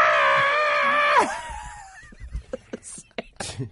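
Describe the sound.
A loud, screeching Godzilla monster scream holds for about a second, then bends sharply downward and cuts off, followed by people talking in short bursts.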